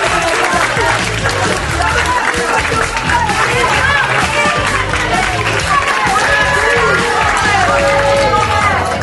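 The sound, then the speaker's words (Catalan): An audience breaks into loud, sustained applause for the schools and radio stations that took part in the Picalletres edition, dense clapping mixed with cheers and crowd noise that holds steady for the whole stretch. “Un fort aplaudiment també per ells.”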